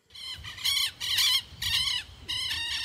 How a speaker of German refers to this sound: Zwitschernde Vögel, Windrausch durch die Bäume. Etwa anderthalb Autostunden von Chiles Hauptstadt Santiago entfernt, auf dem Gelände ringsum lagern Rohstoffe.